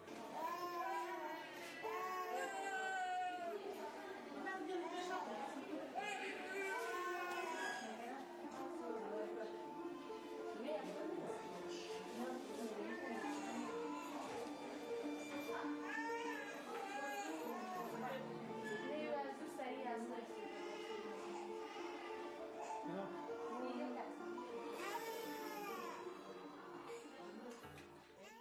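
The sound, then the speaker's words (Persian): Several nursing infants cry and moan in pain in a hospital, their high, wavering cries overlapping continuously for the whole stretch, fairly loud, with a murmur of other voices; the infants have gone months without enough milk or food. “این صدای گریه و ناله های دردآور کودکان شیرخواری است که در شفاخانه ها می پیچد.”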